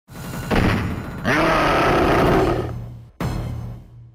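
A harsh, low-fidelity roar of a four-armed monster character from a video game released multiple times swells and growls for about two seconds, then cuts off abruptly before a loud, noisy hit sound bursts in and lingers.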